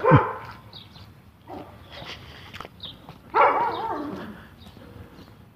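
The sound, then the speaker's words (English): Another person's dog barks outdoors in the morning, with a sharp bark at the start and a louder burst a few seconds later, plus some softer yips and whimpers over a steady background hum. “Yeah, somebody else with a dog.”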